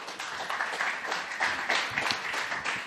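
At the first Gaming Days in Düsseldorf, an audience claps steadily as a guest is called onto the stage, a dense wash of many hands applauding at an even level for a few seconds, with no voices standing out.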